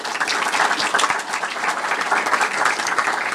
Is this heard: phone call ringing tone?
no